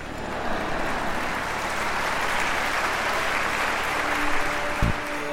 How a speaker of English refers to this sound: It's going to all turn out all right. Did you know that? I'll take four claps today.